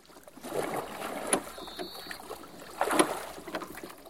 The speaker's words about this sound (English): He leaves the adventurer and gets into another small boat. He rows to the island.